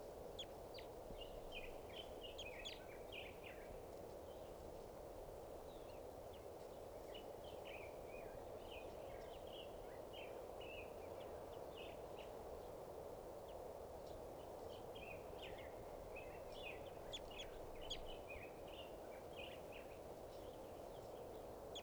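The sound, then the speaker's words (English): A male bird calls repeatedly in bursts of short, high chirping notes, with brief pauses between phrases, over a steady hiss of background noise. No one speaks. “Just collected that male. He'll be bird number 539.”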